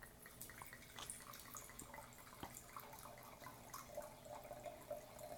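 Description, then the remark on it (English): Trader Joe's Merlot wine pours into a glass in a steady, gurgling trickle with small splashy bursts, a continuous liquid stream lasting several seconds without any voices. “Let's pour that up in here.”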